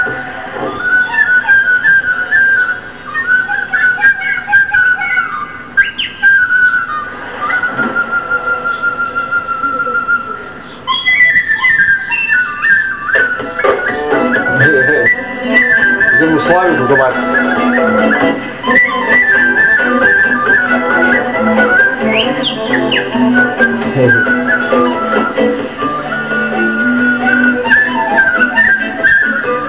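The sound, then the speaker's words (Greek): A person whistles a flowing melody by mouth, clear, with sustained notes and quick ornamented runs over a soft accompanying instrumental background, continuing steadily for the whole stretch. “Τώρα αυτή είναι με τμίτ, θα παίζει με το στόμα να σφυρίζει.”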